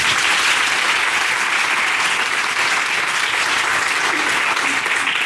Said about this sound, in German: Heute ein Experiment zum ersten Mal live. Damit uns das die Hörer bitte glauben, bitte einen kräftigen Applaus.